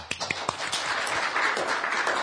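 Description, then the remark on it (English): A brief burst of audience applause: many hands clapping at once in a dense, crackling wash that stays fairly steady, with a few sharper individual claps near the start and no voices. “But just a round of applause or just a show of hands here.”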